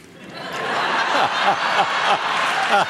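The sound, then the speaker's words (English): A hometown studio audience in Illinois erupts in loud, sustained applause mixed with laughter and cheering whoops at the mention of an Illinois tax, a dense crowd roar that swells and holds for a few seconds. “Hometown crowd, thank you.”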